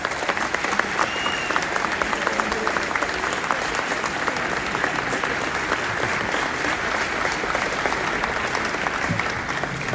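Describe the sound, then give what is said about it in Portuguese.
Sustained, dense applause from an audience for a woman hailed as the muse of municipalism, many hands clapping steadily and loudly for the full length with no break or voice on top. “E aí, um cumprimento especial, vou pedir uma calorosa salva de palmas para a musa do municipalismo”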